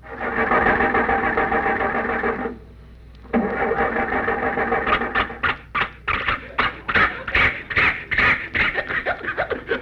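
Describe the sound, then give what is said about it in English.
A flooded car engine with too much gas cranks with a sustained grinding whir, pauses, then coughs and sputters in rapid uneven bursts without ever catching, loud, with no talking. “The motor is flooded. It's got too much gas.”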